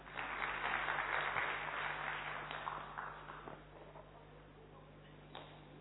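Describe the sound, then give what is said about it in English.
An audience claps steadily for a group of first-timers, the applause loud at first and gradually thinning out over several seconds, with a few scattered claps lingering at the end. “So big round of applause for all of these first-timers.”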